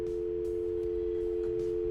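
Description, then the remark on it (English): A steady telephone dial tone hums continuously on the line, an unbroken electronic drone at moderate level with faint line noise underneath and no one speaking. “Anyone want to talk to a dial tone? She's buzzing.”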